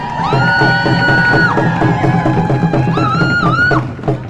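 A crowd applauds and cheers steadily for a speaker called up to speak, with two long, high whooping cries rising above the dense clapping and noise, one early and one near the end, before it begins to fade.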